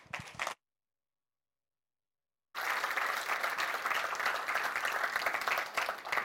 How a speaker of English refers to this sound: And with that, give up the applause